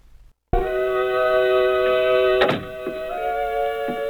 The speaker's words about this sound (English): Shh. The door to Mother's room is opening.